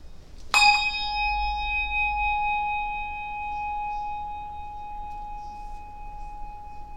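A single bright bell strike rings out clearly during a moment of silence in a worship service, its clear tone lingering and slowly fading for several seconds with no talking.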